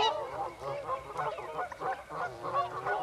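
Whooper swans calling, a steady chorus of overlapping bugling honks with a nasal, trumpet-like tone, repeating without pause for the whole stretch and no voices.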